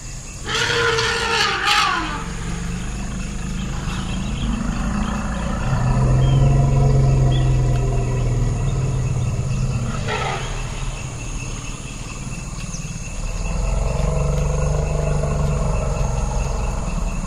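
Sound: elephants calling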